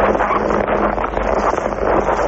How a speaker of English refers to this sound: Sounds like an engine of some sort. The ski lift.